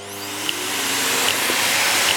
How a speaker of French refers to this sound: Et papa passe l'aspirateur.